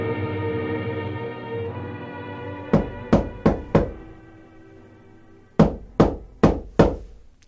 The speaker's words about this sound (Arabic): وما أن هممنا بالفطور وإذا بصوت الباب يطرق.